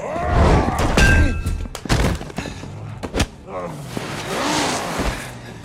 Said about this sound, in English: The guard grabs Tyler and beats him.